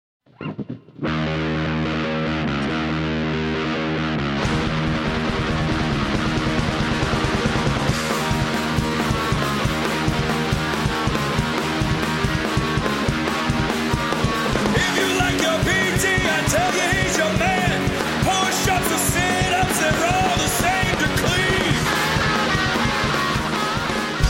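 A loud, continuous medley of parody songs, dense and heavily distorted, shifting abruptly into new sections a few times with no pauses between them.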